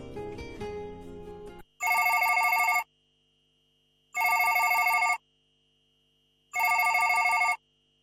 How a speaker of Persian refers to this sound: چند روز بعد تلفن خانه زنگ خورد.